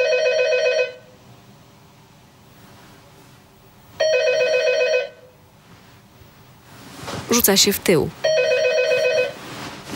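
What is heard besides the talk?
telephone ringing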